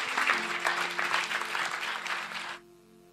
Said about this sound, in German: Und wir begrüßen ihn mit einem Applaus und freuen uns auf das Wort, das du für uns hast.